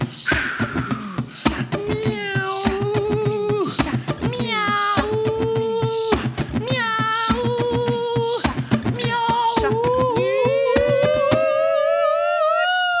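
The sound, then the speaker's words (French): A voice imitates a cat with a series of drawn-out, wavering meows, loud, punctuated by sharp clicks, ending in one long rising yowl. “T'inquiète pas, n'aie pas peur, c'est un faux chat.”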